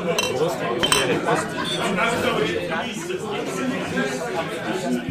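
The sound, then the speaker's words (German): Busy atmosphere in a German-speaking inn (Wirtshaus) on Maundy Thursday evening, with a steady murmur of overlapping conversation, punctuated by sharp clinks of glasses and the clatter of dishes and cutlery. “Ihr hört es, wir sitzen wieder zusammen. Wir sitzen einmal mehr in einem Wirtshaus.”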